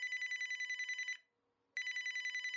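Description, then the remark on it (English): A telephone bell rings loudly in a rapid trill, stops for about half a second, then starts ringing again. No voices. “The phone started ringing, and people said, oh, I'm so sorry about Walter.”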